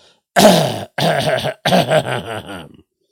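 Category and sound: human body sound, deliberate cough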